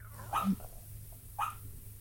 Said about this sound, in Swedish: Skäller han i sömnen? Ja, han ligger och sover. Det gör han jättemycket och drömmer.